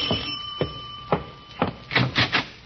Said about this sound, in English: What's that? Doorbell sounds like...